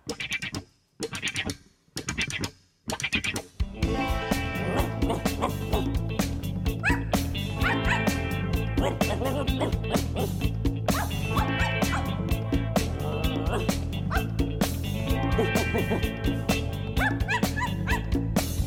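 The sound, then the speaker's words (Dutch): A voice imitates a dog barking, a quick series of woof sounds at the start, before a bouncy instrumental tune kicks in and carries on loudly. “Doe de hond na en doe woef woef.”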